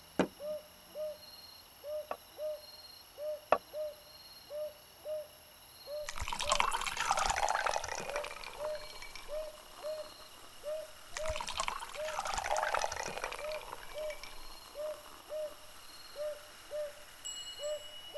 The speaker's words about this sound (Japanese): では、今夜はソーダで乾杯。シュワシュワして美味しいですね。